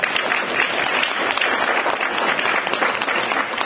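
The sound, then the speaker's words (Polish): An audience claps steadily throughout after a local community member from Orneta is introduced, a dense, even wash of many hands applauding at constant loudness with no voices rising above it. “Brawa.”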